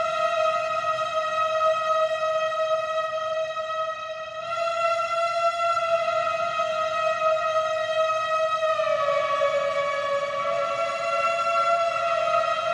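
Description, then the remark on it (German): A synthesizer plays a sustained singing-saw tone, with pitch set by a ring controller and volume or filter by a small wooden block: a pure wavering note rich in steady overtones that holds for several seconds, then glides down slightly in pitch and continues, with no voices. “Das ist die singende Säge. Das ist hier das Teil da drüben mit dem Ring. Also es ist ein Synthi.”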